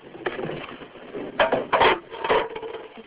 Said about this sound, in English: As the sun loses its afternoon heat, women from a rural village in southeastern Kenya begin their daily task of chopping and collecting firewood.